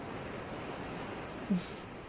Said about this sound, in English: Oh, the water lapping around your cock.